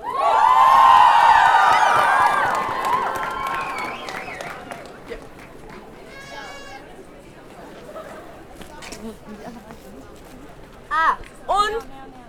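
An audience applauding the event's organizers bursts into loud cheering and high whoops, then keeps clapping steadily as the noise gradually fades into crowd chatter, with a couple of sharp shouts near the end.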